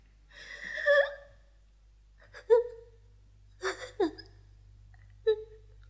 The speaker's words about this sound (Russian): Что ты, малыш? Ну не плачь, малыш.